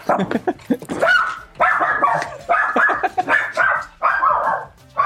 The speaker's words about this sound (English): Oh my God, dog.